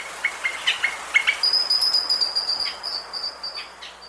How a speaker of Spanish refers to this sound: El trino del changó de montaña forma parte del Banco de Sonidos de Aves Colombianas, recopilado por el Instituto von Humboldt y la Universidad de Cornell.